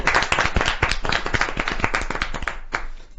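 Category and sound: crowd, applause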